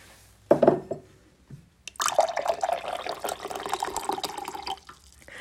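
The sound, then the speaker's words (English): A brief clink near 0.5 seconds, then drinking water pours steadily from a tap into a glass for about three seconds, its pitch shifting as the glass fills, in the middle of the night. No one speaks. “Do you want some more water while we're down here?”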